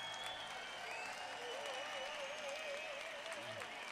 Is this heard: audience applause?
yes